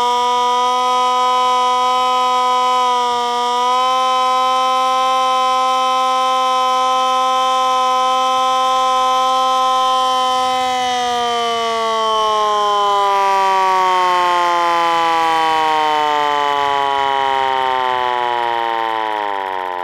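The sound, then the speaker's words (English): Outdoors on a hillside in pouring rain, a loud siren holds a steady, rich droning note for about ten seconds, then slowly winds down, its pitch sliding lower as it fades. No one speaks. “Steady note.”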